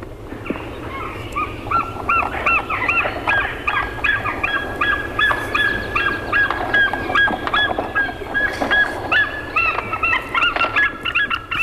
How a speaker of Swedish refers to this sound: Efter koltrasten ska vi lyssna på havsörnen också.